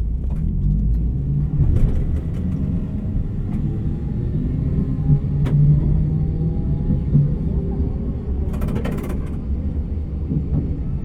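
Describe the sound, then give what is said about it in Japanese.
A bus departs from a stop and drives on, its heavy engine droning in a loud, steady low rumble, the pitch rising as it gathers speed, with faint voices underneath. “発車します。ゲージオーライ。”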